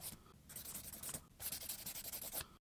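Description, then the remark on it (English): A pencil scratches across paper in quick, short strokes, pausing briefly between bursts, as someone writes down people's names on pieces of paper. The scratching is soft, with no voices. “They started writing down everybody's name.”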